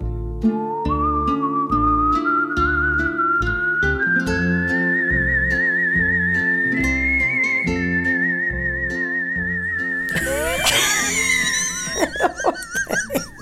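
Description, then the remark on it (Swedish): A person whistles a bright, steadily rising melody, a Latin American folk song, over rhythmic instrumental accompaniment, ending with a burst of fast trills and swooping high notes at the close. “Han fick också vissla till olika så här folkvisor från Latinamerika.”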